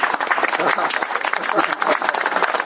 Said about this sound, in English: See, this is applause for our guests from Scotland.